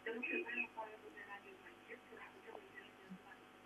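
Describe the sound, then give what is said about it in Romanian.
A radio plays in the background of a telephone call, heard muffled and thin over the line, with continuous voice-like chatter at moderate volume and no clear pauses. “Te rog să dai aparatul de radio mai încet, să ne putem înțelege doar noi două în telefon, da?”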